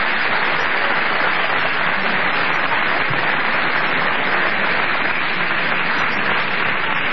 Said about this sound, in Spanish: Quiero pedir un nuevo aplauso.